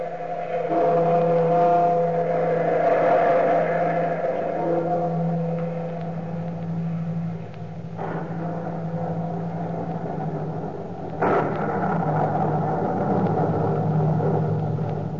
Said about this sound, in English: Falkland, you who seek the wisdom of the universe beyond the time of man, look to the lightning and the thunder.